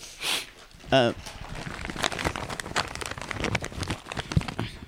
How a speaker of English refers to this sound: May I get a cough drop or will that distract you? You can. Okay. Just unwrap it quietly, please.